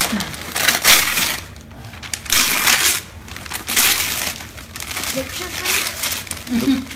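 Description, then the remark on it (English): Loud rustling and ripping of paper in repeated crinkly bursts as a little boy tears open the wrapping of a Christmas gift, with faint voices murmuring underneath. “Well, you can run the paper.”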